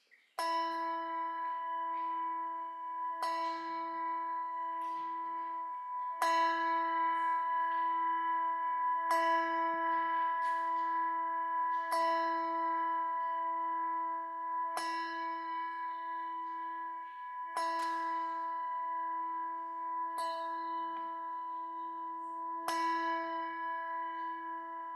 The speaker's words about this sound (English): So we'll allow you to toll the bell and mark the start of our worship service.